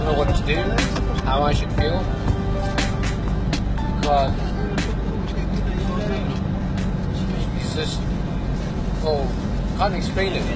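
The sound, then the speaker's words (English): A Humvee military vehicle engine rumbles steadily and loudly throughout, a deep continuous drone with voices faintly audible in the background. “It's a Hummer. Humvee.”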